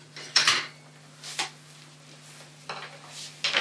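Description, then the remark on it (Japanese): Utensils tap against a cutting board in a few separate knocks, spaced irregularly, with a steady low hum underneath and no talking. “これでトントントン。 こうやって 。ほら、こうやってトントントンってやるでしょ？”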